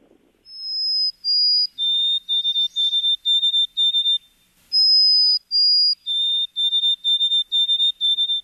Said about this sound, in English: Should we cue up track four and play the white-throated sparrow? Let's do that.